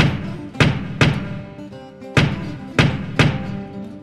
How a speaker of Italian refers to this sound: Arrivata davanti al grande portone, bussa con prepotenza.